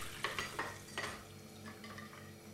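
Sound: dishes being washed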